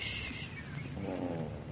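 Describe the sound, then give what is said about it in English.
A cat named Shakespeare purrs steadily, a continuous low rumbling vibration with rapid pulsing texture that stays loud and even throughout, with no voices present. “And don't purr so loud.”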